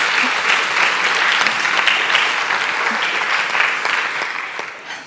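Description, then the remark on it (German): An audience breaks into loud, sustained applause, a dense steady wash of many hands clapping that holds for several seconds before tapering off at the end. “Und wir sind jetzt gerade schon leicht am Applaudieren, aber ich finde, das muss ein kräftiger Applaus sein,”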